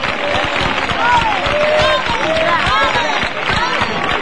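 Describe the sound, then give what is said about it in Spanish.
A crowd claps steadily, a dense patter of applause mixed with overlapping voices and scattered calls, staying loud and busy throughout, as onlookers applaud a procession float (paso de misterio) entering the asylum chapel. “Escuchen el aplauso.”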